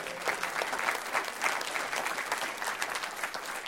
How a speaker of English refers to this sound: How many believe this? Would you give a hand clap for God tonight if you believe that?